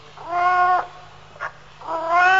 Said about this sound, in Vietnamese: Con gì vậy? Con mèo. Con mèo, đúng rồi. Con mèo này chắc đói bụng hay sao mà nó kêu nghe thảm quá ha.